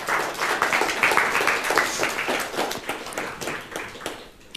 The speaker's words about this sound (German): Bitte einen warmen Applaus